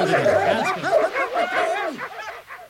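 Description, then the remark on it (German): Several dogs that had been pulling the group bark and yip excitedly all at once, a loud, dense, overlapping chorus of high yelps and barks that continues throughout before easing off slightly at the end. “Ja, und die Hunde, die uns hier gezogen haben, dürfen die auch mit reinkommen?”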